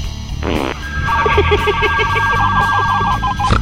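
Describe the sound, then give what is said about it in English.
A novelty fart phone sound effect: a short raspy, fart-like blast followed by a steady run of repeating electronic ringing beeps, fairly loud, with another brief burst at the end. “It's like the bat phone, but it responds to farting emergencies.”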